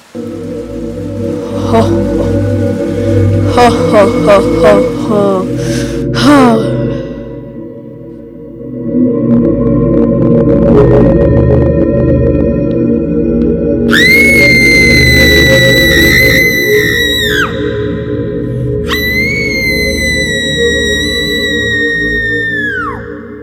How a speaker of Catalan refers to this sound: La nena va passar al costat d'una casa abandonada i va sentir una veu terrorífica.